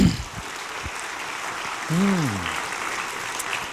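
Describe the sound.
A crowd claps steadily for several seconds, a dense, even patter of many hands, with a single voice letting out a rising-and-falling whoop partway through.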